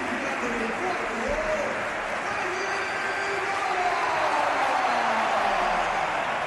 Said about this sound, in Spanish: Ovación cerrada para Alaba, salía al campo en sustitución de Rüdiger